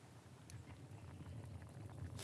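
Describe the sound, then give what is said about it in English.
A steady low bubbling and rumble of water boiling in two big pans on the stove in a convent kitchen, continuous, with a brief hissy burst near the end and no talking. “Sister Blodwyn is busily chopping cabbages, and there are two big pans boiling on the stove.”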